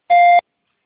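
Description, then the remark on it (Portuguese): A single short electronic beep on an automated customer-service phone line, signalling the caller to start speaking their details; steady and clear, lasting about a third of a second with a bright tonal pitch, followed by silence. “Após o bip, por favor, me fale o seu nome completo, CPF, telefone com DDD, e-mail e sua solicitação.”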